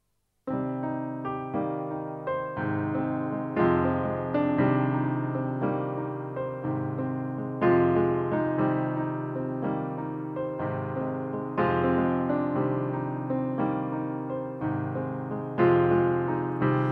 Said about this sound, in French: Vous accompagnez au piano. On vous écoute.